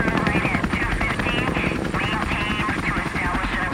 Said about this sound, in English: It was 4:30 a.m. on a Tuesday morning when the helicopters roared over the residential compound in southern Baghdad.